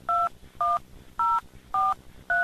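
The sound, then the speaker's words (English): Five touch-tone telephone keypad beeps dialed in steady succession, entering a 5-digit zip code (for Ellicott City, Maryland) into an automated job-listings phone line, each a short two-pitch electronic tone of equal length, separated by brief pauses with faint low hum underneath. “Using the touch tone keypad on your telephone, please enter your 5-digit zip code.”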